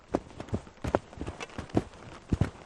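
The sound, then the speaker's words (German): Skis stamp down into snow on a mountain ridge in light wind, trampling out a launch spot for a drone, in a quick, uneven series of muffled crunching thuds, moderately loud, with no voices. “Oben am Bergkamm angekommen, trampeln sie als erstes mit ihren Skiern einen Startplatz in den Schnee.”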